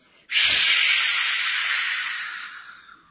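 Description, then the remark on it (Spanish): A balloon deflates with a sudden, loud rush of air that starts abruptly, then holds as a steady hiss and slowly fades over a few seconds. No voices. “Se desinfla el globo.”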